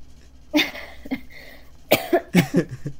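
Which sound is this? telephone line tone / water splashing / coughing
coughing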